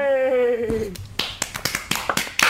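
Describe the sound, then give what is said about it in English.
A sustained, slightly wavering tone glides downward, then gives way to a quick run of sharp, uneven claps, roughly eight crisp smacks in under two seconds at moderate loudness. “Ultra applause, great.”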